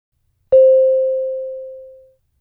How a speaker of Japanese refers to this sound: 3題とも、リコとボブの対話です。最初にリコが、続いてボブが話します。その次にリコが話すところで、次のチャイムが鳴ります。